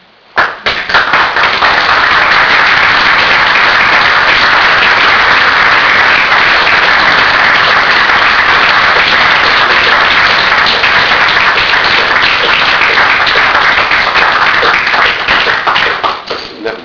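Sustained audience applause fills the whole stretch, a dense steady wash of many hands clapping at an even loudness before tapering off at the end. No voices come through.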